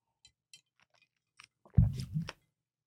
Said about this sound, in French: Je suis en train de croquer de la glace.